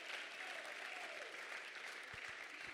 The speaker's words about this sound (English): But I'm thankful for the house of God. Clap your hands right now if you're thankful for the house of God.